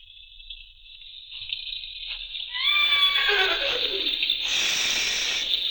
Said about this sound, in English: Shh. Be quiet. Nice horse. Nice horse. Oh, shut up, horse.